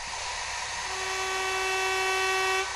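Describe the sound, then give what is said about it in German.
An industrial special sewing machine at the Dürkop Adler sewing machine factory in Bielefeld, Germany, runs with a steady, high motor whine that rises and holds for a couple of seconds, fairly loud over a constant mechanical hum, with no one speaking. “Gefertigt werden hier Spezialmaschinen.”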